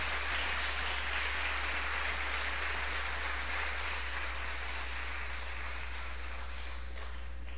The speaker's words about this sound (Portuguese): Aplauda o Senhor aí bem forte, em nome de Jesus.